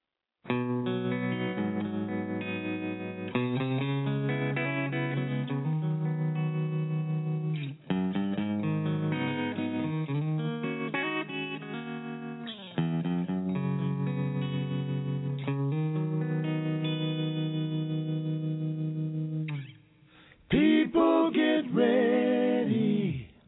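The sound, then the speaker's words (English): A recorded song from a band's first CD in 15 years plays steadily on KXBG Blog Talk Radio, with layered, effects-heavy electric guitar tones and sustained chords, drops out briefly near the end, then resumes with a burst of swirling, warbling notes. No one speaks. “Let's see what they sound like. Here's the first one.”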